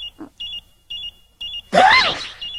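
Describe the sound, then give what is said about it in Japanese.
A small electronic pendant, pressed to make it sound, beeps in short, high-pitched tones repeated at a steady pace, interrupted once by a loud, sudden burst of sound before the beeping resumes. “あ、この音、このペンダントの音なの。”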